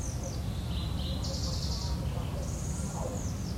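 Small birds chirp and trill faintly, their high calls coming in short bursts over a steady, low outdoor rumble of car traffic and wind.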